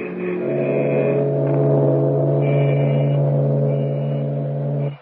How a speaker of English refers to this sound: At the open drawbridge, a long line of irate motorists greet them with honking horns